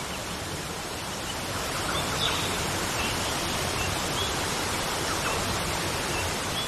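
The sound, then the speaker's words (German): A steady, dense rush of falling water roars without pause as a waterfall pours into a large pool, filling the whole scene at an even, fairly loud level with no voices. “Du schwimmst ein paar Meter und kommst am Wasserfall an.”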